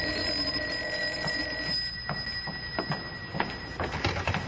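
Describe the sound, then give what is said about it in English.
A telephone rings with a bright, metallic bell trill that holds steady high tones and pulses in quick repeated strikes, moderately loud and with no voices. “And then, when we'd almost forgotten about them and we'd started talking as if the world had a future after all, and maybe we had a future too, the phone rang.”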